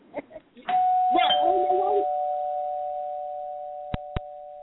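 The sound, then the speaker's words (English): During the I Got Something to Say radio show at 11:51 pm, a doorbell rings with a loud, sustained electronic tone that slowly fades over several seconds, voices briefly audible at the start and over its beginning, then two sharp knocks at the door near the end. “How is he ringing the doorbell and knocking at the door?”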